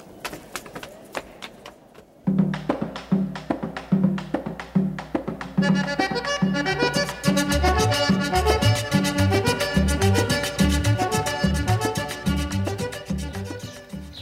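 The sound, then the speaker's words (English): A few sparse clicks, then a train starts up with a low rumble and builds into a steady, loud rhythmic clatter of wheels over the rails that continues to the end. “Come on, that's our train.”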